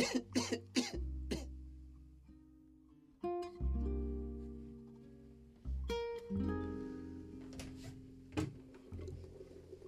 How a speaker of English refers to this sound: Well, we mustn't forget to take our cough bottle, must we? Because that cough has to go.